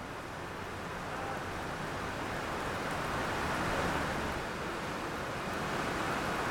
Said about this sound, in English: I am here at Transplanting Traditions, and right now we are hearing The Rain